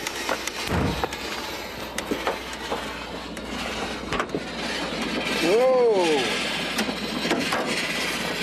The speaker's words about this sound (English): Whoa! Boy, my car is really overheating. Well, it's a good thing I don't have far to go. I can finish my journey on foot and get the water I need for my Jeep.